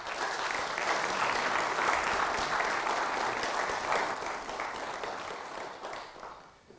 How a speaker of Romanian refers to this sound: Vă mulțumesc din toată inima că ați făcut efortul necesar și noi ca spectatori vă aplaudăm încă o dată.